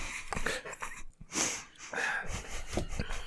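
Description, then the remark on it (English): A man coughs and wheezes in a series of rough, breathy bursts, with short gaps between them and throaty snorting breaths in between. “Make your quips into the mic so they can be heard over the coughing man.”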